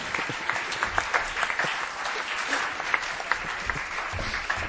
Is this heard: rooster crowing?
no